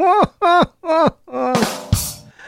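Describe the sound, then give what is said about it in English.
Three short, buzzy blasts that droop in pitch, followed by longer, sputtering raspberry bursts, all voiced fart noises made by mouth, taken from Gravity Falls season 2, loud and alone with no talking. “How'd you like my fart noises intro?”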